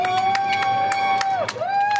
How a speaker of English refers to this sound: The applause, the cheering, is to show we care. It goes on for 2 or 3 more minutes.